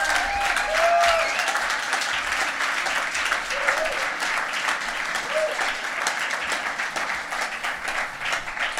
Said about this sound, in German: Können wir nochmal dieser Band, die uns so wunderbar, so stark, so kraftvoll in diese Gegenwart Gottes geführt hat, können wir denen richtigen, entsprechenden Applaus geben?